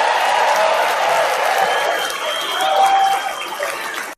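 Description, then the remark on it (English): A large crowd at a rally roars and claps steadily for about four seconds, a dense wash of cheering and applause with a few higher shouts and whistles cutting through, holding loud throughout before cutting off. “Yeah, well, a crowd like that.”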